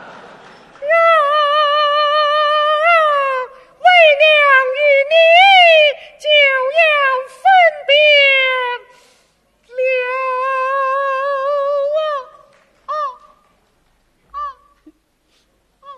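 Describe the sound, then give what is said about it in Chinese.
A person's voice imitates a newborn baby just a month old crying: loud, high wavering wails in several long bursts with brief breaks, trailing off into a few short whimpers. “这么一哭，我也怪难受的。”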